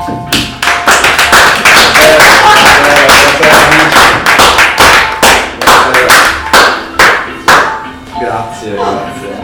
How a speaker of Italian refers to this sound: Un applauso